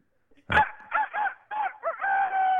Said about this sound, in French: Superbe, un coq. J'aurais jamais espéré mieux, un coq.